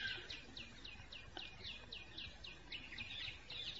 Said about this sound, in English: If you deny these singing birds, then something in you is denied.